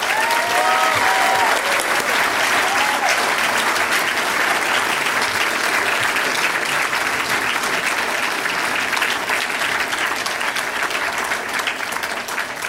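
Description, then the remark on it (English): An audience breaks into sustained applause for the people who helped bring a fund to fruition, a dense, steady wash of clapping that stays loud for the full duration with no one speaking over it. “Please give a round of applause to”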